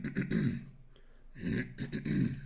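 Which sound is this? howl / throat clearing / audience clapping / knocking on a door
throat clearing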